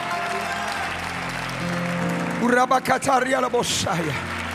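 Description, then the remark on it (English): An audience claps their hands to the Lord steadily, a dense wash of many hands for a couple of seconds, then a voice starts speaking loudly as the clapping continues underneath. “Come on now, clap your hands to the Lord.”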